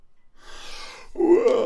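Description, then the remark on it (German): A person acts out a yawn for the boy Paul in a bedtime story as he throws off the blanket and sits up in bed: a long, breathy intake of air, then a drawn-out voiced sigh that slides in pitch, heard alone without any talking. “Gähnte Paul, als er die Bettdecke wegschlug und sich aufrichtete.”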